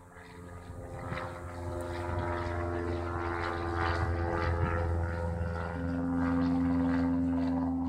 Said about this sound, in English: As your plane descends to land, you might say, what a beautiful island Antigua is.